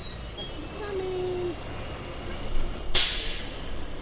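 A school bus rolls to a stop at a suburban street corner in Virginia with a sustained high-pitched brake squeal, then a sudden loud hiss of air brakes releasing near the end. No one speaks.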